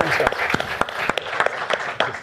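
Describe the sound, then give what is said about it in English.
An audience applauds steadily to send off a departing speaker, many hands clapping in a dense, continuous wash with a few sharper individual claps standing out, moderately loud. “we're going to let you go with an applause.”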